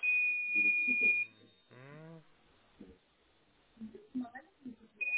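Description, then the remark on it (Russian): A steady, high electronic beep from a device that has been beeping since the previous evening sounds for about a second while people talk, then cuts off; after a stretch of conversation, the same tone starts again at the very end. “Вот слышите, пищит кто-то?”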